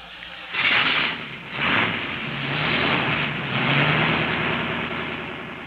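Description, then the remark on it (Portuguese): The engine of a car belonging to Joãozinho Gromulca cranks and catches with a couple of loud surges, then settles into a steady, rumbling run that swells slightly as it keeps going, with no voices. “O carro é do Joãozinho Gromulca.”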